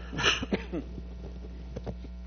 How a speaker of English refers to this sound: Sorry about the cough.